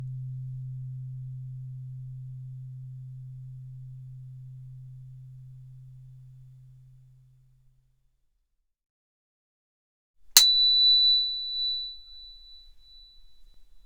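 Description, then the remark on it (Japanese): A low, steady sine tone hums and slowly fades to silence; after a pause, a sharp click introduces a high, pure, unwavering sine tone that holds on alone. “この音は天井の周波数、大地の周波数の32倍も高い音。”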